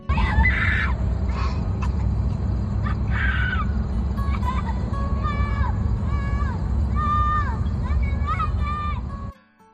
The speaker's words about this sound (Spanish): Son los gritos de un niño de 5 años al que acaban de abandonar en la frontera entre México y Estados Unidos, en Texas.